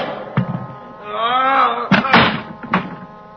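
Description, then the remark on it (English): A heavy meat storage room door with a large cold handle groans open on a long, wavering hinge creak, then slams shut with a loud thud followed by a couple of further bangs. “Behind me, I felt a large cold handle. The door to the meat storage room. A heap that opened.”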